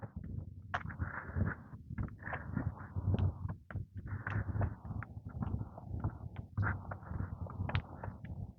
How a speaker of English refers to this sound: Sounds like a flock of bees, but it's probably a couple of electric bikes or scooters.